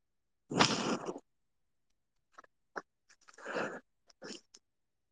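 A cat lets out one loud, drawn-out meow, followed by a few short, quieter chirps and faint rustling sounds. No one speaks.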